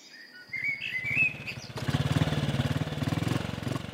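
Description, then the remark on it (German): Birds chirp briefly before a motorcycle with a sidecar rumbles in, growing louder and revving hard as it speeds along a winding road towards town with a steady throbbing beat. “Lilly sitzt im Beiwagen eines Motorrads.”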